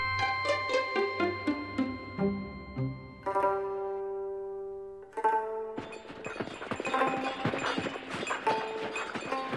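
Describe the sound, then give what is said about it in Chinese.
Hooves of donkeys carrying a sedan chair to Xining, China, clip-clop on a road in a steady trotting rhythm, growing busier toward the end, mixed under sustained melodic music with no talking. “蜜月之后，施安伟坐在由驴子抬的轿子里，在海春生的陪伴下来到西宁。”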